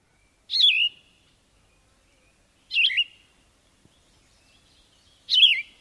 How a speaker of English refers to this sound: How about the yellow-throated vireo?